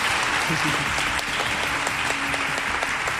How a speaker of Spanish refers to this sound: y un público como ustedes, que son de lo más educado del mundo y de lo más madrugador del mundo, por cierto, cosa que les agradecemos, y que ahora van a despedir con un fuerte aplauso a la alcaldesa y al presidente de la Diputación.